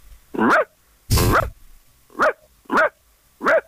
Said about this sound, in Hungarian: Igen, nincs indokolatlanul ugat, semmit nem lát, de mindig ugat. És a saját ugatását hallgatja. Teljesen reményvesztett, egy ablak előtt ül, és mindent megugat.